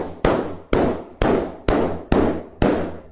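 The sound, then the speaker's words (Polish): Six sharp, loud pops burst out one after another at a steady, quick rhythm, each a snappy bang with a short fading tail, from balloons bursting, not gunshots. No voices are heard. “A, prawda, jak mocno to były balony, to nie były strzały.”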